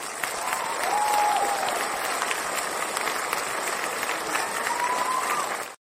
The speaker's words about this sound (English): Folks, I just have to clap crazily for this founder journey moment.